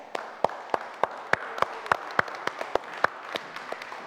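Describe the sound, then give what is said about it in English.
A child claps their hands while the pastor is speaking, in a steady, even rhythm, roughly a dozen light, sharp claps in a row with no voices over them. “As Pastor was saying that, he was clapping.”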